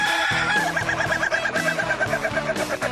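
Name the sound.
rooster crowing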